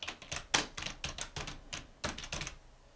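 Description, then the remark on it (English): Rapid keyboard typing of a search for cat and Bakersfield: a quick run of crisp, clattering keystrokes at an uneven pace, with one brief pause before a final flurry. No voices. “Boy, we put down cat and Bakersfield. Man, it comes right up.”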